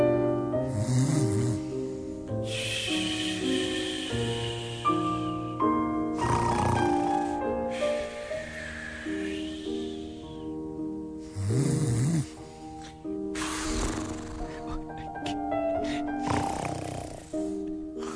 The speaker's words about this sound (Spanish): No ronque tanto, señor maestro. No ronque tanto que no nos deje escuchar la musiquita.